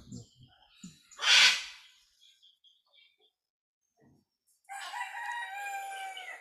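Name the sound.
birds calling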